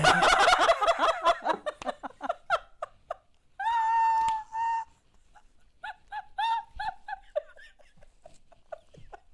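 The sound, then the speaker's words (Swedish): A wristwatch alarm goes off, with a rapid warbling burst of chirps, a held tone, then a few scattered squawky bleeps. Nobody speaks. “Min klocka fick lite tuppjucke. Jag ska se om jag kan stänga av det.”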